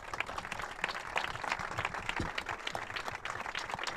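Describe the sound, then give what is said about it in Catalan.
A crowd gives a strong round of applause for Alejandro Morant. Many hands clap at once in a dense, continuous patter for several seconds, with no voices rising above it. “Un fort aplaudiment per Alejandro Morant.”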